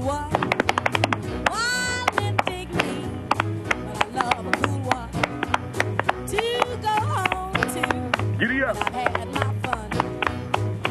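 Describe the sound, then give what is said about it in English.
A standard drum roll tapped out by hand on a leg as a demonstration: fast, loud, steady slaps in a galloping rhythm, with voices and other tonal sounds running beneath it throughout. “Okay, here's the standard roll.”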